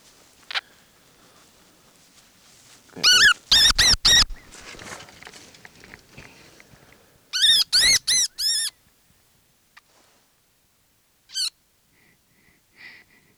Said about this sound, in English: Okay, that was a baby wood rat. Wood rat just came out of the house here.